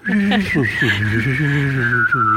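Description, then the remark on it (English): A steady high whistle held over a buzzing hummed tone that slides up and down in pitch, producing a warbling, eerie UFO-like sound made by a single person whistling and humming at the same time, fairly loud. “I'm sorry to interject, but since you mentioned 1950s sci-fi, would you like to hear me whistle and hum at the same time to make a UFO sound?”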